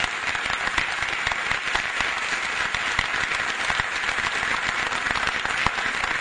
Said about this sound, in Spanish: Hoy se están cumpliendo 32 años del advenimiento de la democracia, del día en que juró el doctor Raúl Ricardo Alfonsín como presidente de los argentinos. Y de ahí en más, claro que sí que vale el aplauso.